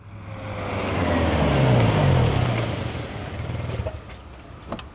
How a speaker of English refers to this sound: 7:30 a.m. I arrive in San Diego and drive to Petco Park. The traffic is terrible. I'm late.